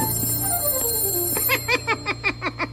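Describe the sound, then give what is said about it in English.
A telephone rings in a fast, rhythmic trill of bright, buzzing pulses that starts about halfway through and repeats steadily to the end, following a softer stretch of descending tones. “There's some laughing and a telephone ringing.”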